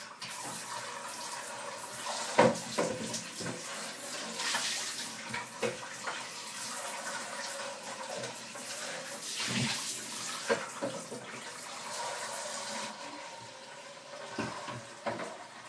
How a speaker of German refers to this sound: Also jetzt muss er noch voll laufen, der Wassertank. Und dann haben wir es da auch schon wieder gleich.